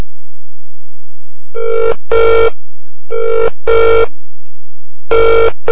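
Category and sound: signal or alarm, telephone ringing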